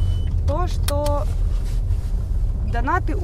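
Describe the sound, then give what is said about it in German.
Steady low engine and road rumble from inside a moving car being driven to a branch of the Ukrainian Post in Ukraine runs throughout, with a few short bursts of a voice rising over the constant drone. “Sie springt in ihr Auto und fährt zu einer Filiale der ukrainischen Post.”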